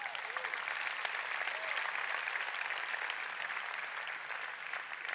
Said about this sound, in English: We need to clap that up for a second.